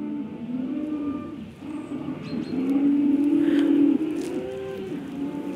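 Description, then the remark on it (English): Cattle bellow and shriek in long, overlapping, strained calls, swelling louder in the middle before tailing off, with no talking over them. The cattle stand in a very muddy field on a misty day. “That was the rather ear-splitting shrieking of cattle who are in the most desperate, muddy field.”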